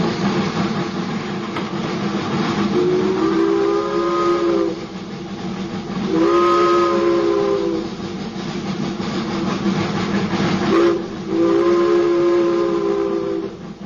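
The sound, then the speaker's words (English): A train whistle sounds three times, each a long steady harmonic blast of a second or two, loud over a continuous rumbling background of a moving train. “La nostalgie du train. La nostalgie du sifflement de ces bêtes puissantes qui viennent.”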